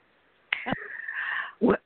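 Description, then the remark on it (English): A cat meows in a single drawn-out, fairly loud cry lasting about a second, followed by a short rough burst at the end. “My cat.”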